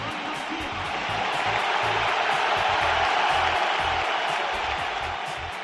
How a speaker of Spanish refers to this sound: Los que estáis escuchando o viendo por la tele, en el campo se ve que hay muchos más aplausos. Primero pitos, luego aplausos. ¿Cómo le sentó esto al portero del Barça, Bajori, en el día de su debut con la selección nacional?